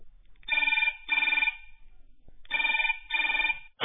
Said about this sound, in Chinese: 电话铃又响了，又到了打电话的时间了。